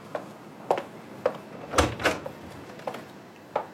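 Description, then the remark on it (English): A hospital door along a corridor is opened and closed, with a run of light clicks and knocks around two louder, fuller bumps in the middle, and no voices. “She's just along the corridor and through the door.”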